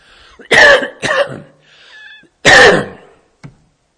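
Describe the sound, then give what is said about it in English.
A man coughs after swallowing wrong, in harsh, loud bursts: two quick coughs, a short pause with a faint wheezy breath, then one more hard cough and a small throat sound. “And water would be lovely. I swallowed weird.”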